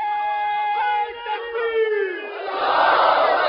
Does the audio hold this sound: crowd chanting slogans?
yes